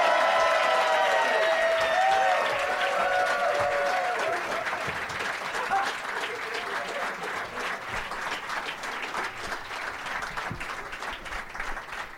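Sustained audience applause with cheering and whistles at the American Comedy Company in San Diego, welcoming comedians Mike Kaplan, Billy Bonnell and Graham Elwood; loud at first, then gradually tapering off into steady clapping over about twelve seconds.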